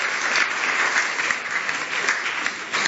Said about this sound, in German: Mal einen Applaus dafür, das ist, fällt ja gar nicht so leicht, hier nachher vorne zu kommen.